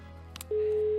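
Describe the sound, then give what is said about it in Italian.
A steady telephone tone of an unanswered call to a number in Bellinzona sounds from about halfway through, a single unbroken pitch following a couple of brief clicks, with no voice answering over a faint background hum. “Se non risponde, però, noi non possiamo... Il numero è giusto?”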